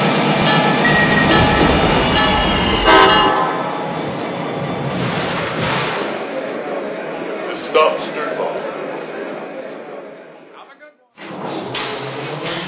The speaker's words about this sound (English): Milwaukee on track number 2, train number 338, the Hiawatha service.